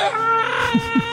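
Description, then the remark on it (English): Dogs howl along to singing in long, wavering, high-pitched tones, a steady chorus of overlapping wails with a couple of brief dips in pitch. “The choir of the pack is so awesome.”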